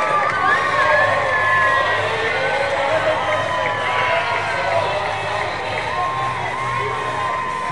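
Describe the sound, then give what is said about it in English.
A large baseball stadium crowd cheers and shouts steadily for several seconds, a dense roar of many voices with high whoops and yells rising above it, loud throughout. There is a runner at second and Ivan Melendez is up to the plate while pitching coach Julio Valdez goes out for a chat. “And the crowd responding.”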